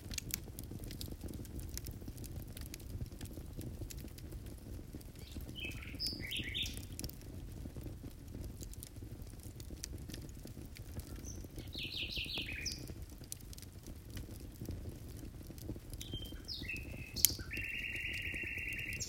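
A nightingale sings at night in the countryside in short, scattered phrases of bright whistles and trills over a steady low rumble of night ambience, with no voices.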